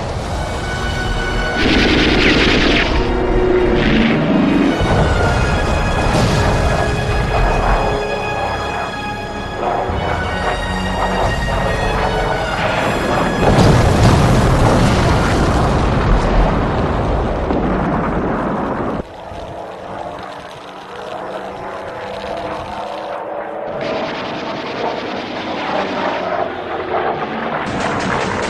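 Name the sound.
anti-aircraft gunfire and explosions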